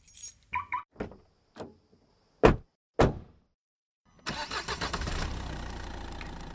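A few sharp thunks and clicks, like a car door shutting and keys, then the engine cranks and catches, settling into a steady idle.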